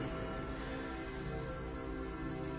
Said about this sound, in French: Peut-être entendez-vous les cloches de la cathédrale.